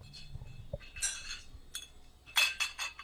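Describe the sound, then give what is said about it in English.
Glass bottles from Pennsylvania clink and rattle against each other on a whirring, circling steel and glass conveyor of a Borelli bottling machine at a distillery, several bright clinks in irregular bursts over a low mechanical hum, moderately loud. “They're loaded into a whirring, circling steel and glass conveyor belt that leaps to life.”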